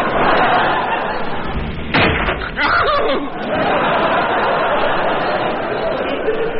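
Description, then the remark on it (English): A single heavy thud from a blow with a spaghetti sock to General von Gutten's head lands abruptly partway through, loud, over a steady bed of murmuring voices and faint snickering laughter. “One good clout on Von Gutten's big steaming nut suffice.”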